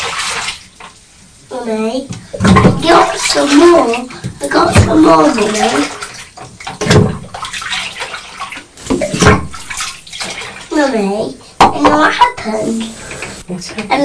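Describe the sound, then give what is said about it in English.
Water sloshes and splashes in a bathtub where a child plays with boats, with a few louder splashes standing out, while the child and an adult talk over the noise. “What's that was a big splash.”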